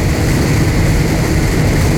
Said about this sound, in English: In the lab, with all the noise, water, and wind, it's easy to see why understanding how climate change influences hurricanes is so difficult. It sounds like a freight train.